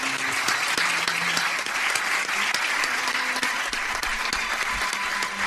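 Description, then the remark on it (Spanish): Sustained applause from a large crowd for new doctoral graduates at a university ceremony, a dense steady wash of many hands clapping at once with individual sharp claps popping out, holding a constant level throughout with no voices. “Ese es el aplauso que reciben los nuevos doctores y doctoras.”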